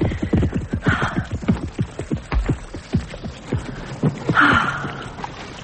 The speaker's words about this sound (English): He's bulky, black, and broad at the withers. And his hooves are massive, verging on the cart horse scale. Yeah, and his canter is off, true, but his neck is thick. And maybe there's some Morgan horse back there somewhere in his pedigree.